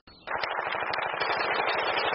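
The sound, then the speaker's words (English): Rapid, sustained machine gun fire from a first-person shooter video game being played, a fast steady stream of sharp crackling shots that starts abruptly and stays loud throughout, with no voices. “Eating snacks and playing first-person shooters with your breath.”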